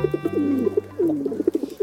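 Pigeons cooing in a soft, throaty rhythm of low repeated notes, each call gliding downward, with no voices present.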